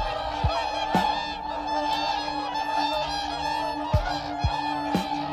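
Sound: geese honking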